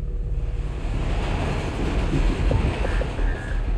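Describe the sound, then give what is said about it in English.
A passenger train travelling from Pennsylvania to New York City in 2003 rolls along the rails with a steady, loud low rumble and faint rhythmic clatter, without any voices. “In 2003, 26-year-old Andrew Jones took a train from Pennsylvania to New York City.”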